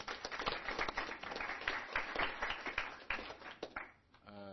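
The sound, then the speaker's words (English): A crowd applauds a man to honor what he brought to the community, with dense, steady clapping for about four seconds, fading out just before a voice begins speaking at the end. “And please, a round of applause to him, please.”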